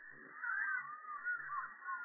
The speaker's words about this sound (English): They're wanting to be able to remember going off to, you know, the wilds of Kenya, and every morning they heard the strange sound. And they discovered later that it was a Hardy-Dar ibis